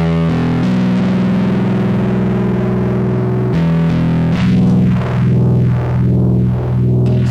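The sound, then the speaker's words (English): A loud, sustained distorted electric guitar drone from the guitar's pickup signal that, halfway through, passes through a phaser effect with steady swooshing sweeps rising and falling about four times. No voices are heard. “You're hearing my pickup in my guitar. That's me talking. Yeah. Go and hit the phaser.”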